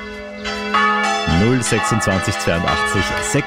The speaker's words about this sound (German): Heiliger Bimbam. Der ist immer noch nicht aufgelöst. Wo klingen die Glocken denn bitte schön genau so? Das kann ja nicht so fair sein.